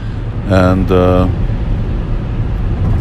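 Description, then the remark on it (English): A steady low rumble of road noise fills a car cabin as it drives on the mainland in Croatia toward New Brajadam, with a brief burst of a voice early on riding over the constant drone. “And now we're driving, as you can probably hear from the car noise.”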